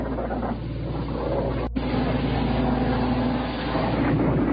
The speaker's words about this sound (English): Here we go again. Another plane's come over.